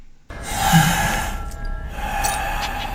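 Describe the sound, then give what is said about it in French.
A long, heavy breath, a steady airy hiss that swells early and then holds for a couple of seconds, with no talking. “La respiration au début, elle marche.”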